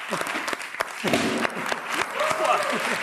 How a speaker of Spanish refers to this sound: ¡Un aplauso!